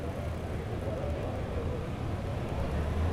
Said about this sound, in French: Non loin du port, les rues bordées de palmiers sont déjà bondées. Des camionnettes, des voitures, des taxis, des motos et des piétons vont et viennent.